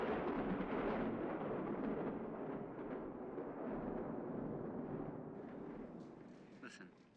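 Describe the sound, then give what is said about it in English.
A long, heavy rumble of thunder rolls on for several seconds, deep and booming, then slowly fades out toward the end. “Stay up for a while and listen to the storm.”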